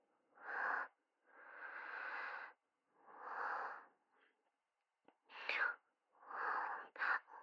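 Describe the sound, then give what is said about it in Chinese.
Heavy, airy breathing of a person feeling hot, heard during a quietly held phone call, a series of long noisy inhales and exhales in an uneven rhythm, with short sharp breaths near the end and no talking. “我热，我接你电话都是很小声的，所以喘气声听得特别明显。”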